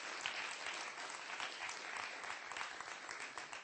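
A crowd at a WFAE evening event applauds steadily, with dense overlapping claps sustained at an even level throughout, sounding like a full room responding together.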